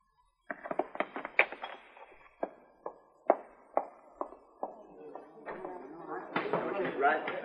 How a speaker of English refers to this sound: She smashed that bottle full of whiskey just like it was nothing. A terrible thing. Wasting whiskey like that is terrible.